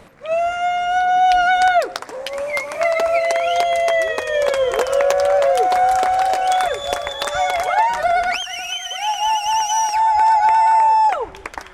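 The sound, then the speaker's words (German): A crowd of spectators cheers and shouts loudly as occupiers are carried one by one into box vans, many voices overlapping with rising and falling whoops, continuing for about twelve seconds with a brief dip partway through. “Die BesetzerInnen werden einzeln und unter Jubel der ZuschauerInnen in die Kastenwagen transportiert.”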